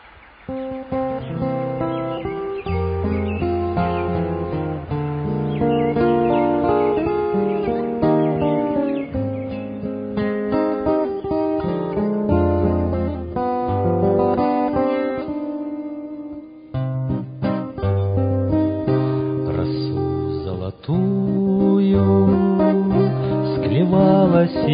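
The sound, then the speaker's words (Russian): An old song's instrumental intro plays steadily and fairly loud, with layered melodic lines over a bass part and a slightly muffled, dated tone. It pauses briefly partway through, and no one sings. “Это песня старая, такая «…». Прекрасная песня.”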